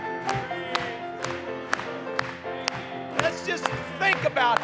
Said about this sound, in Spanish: Vamos a aplaudirle una vez más.